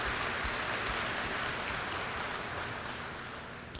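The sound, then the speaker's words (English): A crowd applauds steadily for the hard work of many in the industry in the hurricane recovery in New Orleans, a dense crackle of many hands clapping at an even level for several seconds before tapering slightly at the end. No voices are heard. “So I'd just really like everybody to applaud the hard work of many in this industry in the recovery of helping our folks in New Orleans.”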